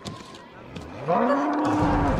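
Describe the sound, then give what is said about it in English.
A bull, Killer the Bull, in an arena, lets out one loud, low, drawn-out moo that swells upward in pitch and then holds steady for about a second, following a quieter stretch of faint background noise. “Her sneezing attracts the attention of Killer the Bull.”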